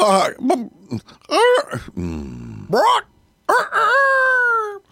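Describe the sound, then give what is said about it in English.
In an advert for Chicken Ridge Farm, a human voice mimics a rooster crowing in a series of loud, strained calls whose pitch rises and falls, ending in one long, drawn-out crow with no other sounds. “That's one talented rooster.”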